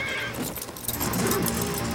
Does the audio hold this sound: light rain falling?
no